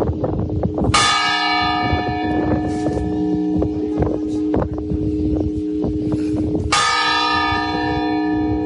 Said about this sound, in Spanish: cuando alguien fallece, están los clamores de difunto, que por cierto son distintas en caso de varón y de mujer. 33 golpes son un hombre, 30 golpes lentos son una mujer fallecida.